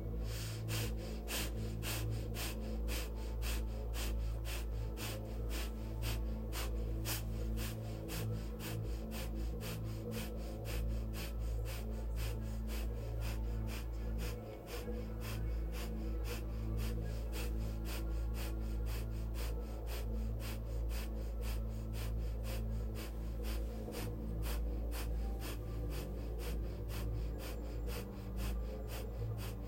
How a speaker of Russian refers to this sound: мы чувствуем ветер, и мы хотим забраться на вершину этой горы, делая глубокие вдохи носом и выдохи вместе со мной.